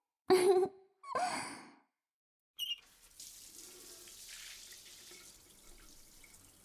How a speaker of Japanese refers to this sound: じゃあまずは泡流しちゃいましょうか。泡まみれなのを流したら、その後が本番ね。